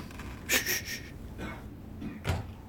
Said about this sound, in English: He's trying the door.